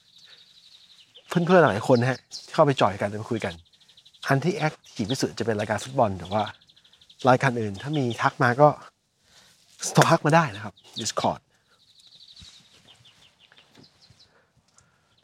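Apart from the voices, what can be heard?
birds singing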